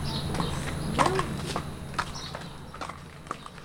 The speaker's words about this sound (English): ask your horse to walk into the arena. Walk on. Very good.